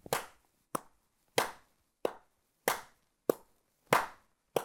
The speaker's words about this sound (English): The third aspect of rhythm, feel, has to do with whether individual pulses within a beat are emphasized or not. A simple example of this is if I accent the 1 and 3 of our 1, 2, 3, 4 clap.